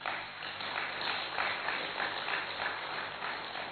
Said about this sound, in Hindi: अपने लिए ताली बजाओ।